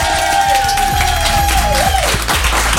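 Loud, dense applause from a live audience of Fun Radio listeners during a live broadcast from La Folie Douce in Avoriaz fills the whole clip, with a steady clatter of many hands and a thin whistle-like tone sliding gently downward midway through.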